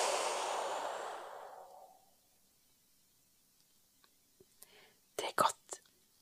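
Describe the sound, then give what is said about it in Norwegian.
A long, slow, breathy exhale after holding the breath during a guided breathing exercise, fading away over a couple of seconds, then near-silence broken by a few soft clicks and brief whispery sounds. “Og så pust ut.”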